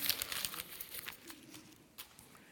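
Paper being crumpled, a steady stream of dry crackles and crinkles with a few sharper bursts, fading slightly toward the end, with no voices.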